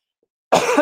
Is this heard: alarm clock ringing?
no